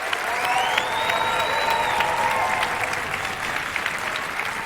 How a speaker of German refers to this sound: Mach nochmal einen kleinen 5-Punkte-Applaus, weil irgendwie, ich glaube, ihr seid noch nicht ganz warm. Mach nochmal 5 Punkte. So, 5 Punkte. Und wir springen direkt auf 8. 9. Und jetzt bitte mit einem 10-Punkte-Applaus auf die Bühne